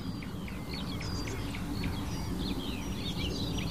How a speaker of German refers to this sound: Jetzt hört ihr sie, das kieselsteinartige Rufen der Mönchsgrasmücke.